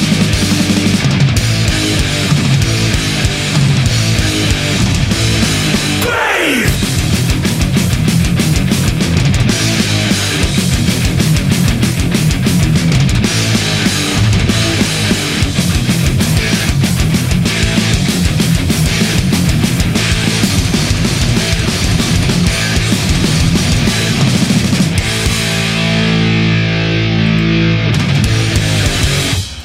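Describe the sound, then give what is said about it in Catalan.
A loud, dense song by a British band from its 2007 debut album, with pounding drums and distorted guitars driving steadily, a brief swooping effect early on, then settling into sustained, ringing chords near the end. “Sí senyor, així de bé sonen aquesta banda britànica”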